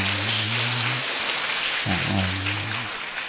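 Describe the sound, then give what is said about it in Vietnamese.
A crowd claps loudly and steadily for the whole stretch, a dense unbroken wash of applause with a low, droning tone running underneath, applauding at a Buddhist church gathering after an announced donation to the church's charity. “Nó quý vị cho tràng pháo tay thật là lớn.”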